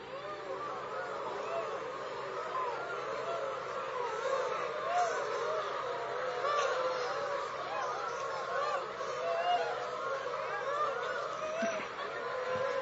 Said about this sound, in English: Would you like to do? The coo of the swan.